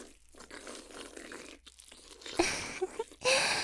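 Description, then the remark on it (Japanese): Wet, squelchy gulping noises of a tentacle creature swallowing, soft and murky at first, then building into louder sloshing bursts toward the end, with no talking. “お射精に合わせて触手さんがごくごく言ってますね。”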